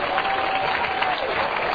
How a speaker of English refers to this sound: Hallelujah. Praise God. Give the Lord a good hand clap today.